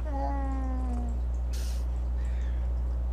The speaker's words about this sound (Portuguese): Talvez com conteúdo de gato. Alerta de gatinho.